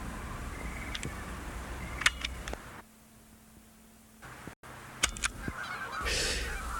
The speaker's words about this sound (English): Please add the following sound to my master tape labeled Sounds. Canadian geese, Diane.